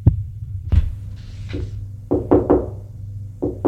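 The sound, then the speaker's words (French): Someone knocks on a door: a few scattered knocks, then a quick run of three, then two more, sharp over a low, steady hum. “On a frappé à la porte.”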